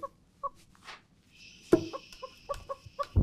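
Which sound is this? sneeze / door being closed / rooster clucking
rooster clucking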